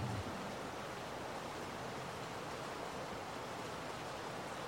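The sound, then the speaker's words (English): Heavy rain falls during the rainy season in a steady, dense hiss that fills the whole clip, loud and unbroken, with no voices or distinct individual drops standing out. “And the rain is getting serious.”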